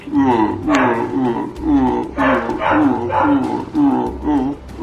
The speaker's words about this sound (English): However, there's a goddamn barking dog in the background that almost ruins this clip for me, but doesn't.